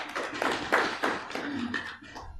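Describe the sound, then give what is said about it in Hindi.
A group of people clap together, at the speaker's call, for someone who answered a question quickly; a brief, moderately loud burst of applause, the claps dense and overlapping for a couple of seconds before tapering off. “कितना जल्दी तड़ाक से उत्तर दिया इसने, तालियां बजाओ सब।”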